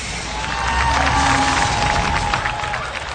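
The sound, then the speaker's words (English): A large crowd gathered in a plaza roars and cheers continuously, a dense wall of many voices holding loud and steady throughout, with a few shouts rising above the din. “When his canopy opened, he was deafened by the roar from the crowd.”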